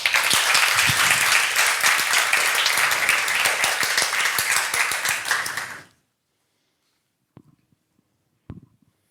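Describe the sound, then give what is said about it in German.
A crowd applauds loudly for about six seconds for a youth group about to present their project, dense overlapping claps that stop abruptly, followed by near silence with a couple of faint thumps or handling noises. “Ein Applaus bitte.”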